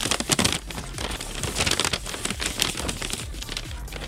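Continuous papery rustling and crinkling as slips of scratch paper bearing random questions are rummaged through inside an old Kleenex tissue box, steady for a few seconds with no voices.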